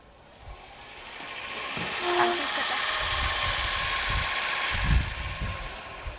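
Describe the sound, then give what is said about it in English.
A car engine runs with a steady, rough mechanical rumble and hiss, swelling in the first two seconds and then holding fairly loud, with occasional low thuds and a brief tonal whine. “I can't hear for Dorothy's car.”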